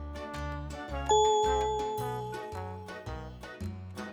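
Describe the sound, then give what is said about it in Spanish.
A single bright bell chime rings out clearly in a room with tables, chairs and many children, over rhythmic background music, its ringing tone lingering and slowly fading as the steady beat continues. “Al poco tiempo de haber entrado, sonó una campana.”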